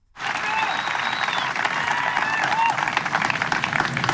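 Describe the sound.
Steady applause from a golf gallery while Sergio Garcia plays his round, a dense continuous patter of many hands clapping at an even loudness for about four seconds, with a few faint voices and whistles mixed in; after the applause a fan yells "fried chicken".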